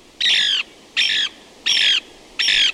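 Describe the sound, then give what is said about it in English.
A Lewis's woodpecker gives four harsh, raspy squawking calls at an even pace, each lasting under half a second. The calls are loud, with no other voices around them. “A century of logging and fire control has taken its toll on these mature pine forests, the preferred nest site for the Lewis's woodpecker.”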